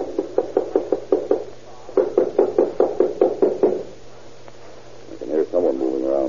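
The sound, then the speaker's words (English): Two quick bursts of loud, insistent knocking by police on an apartment door, each a rapid run of about eight to ten raps, followed by a pause and then a man's voice starting to speak. “Hit it again.”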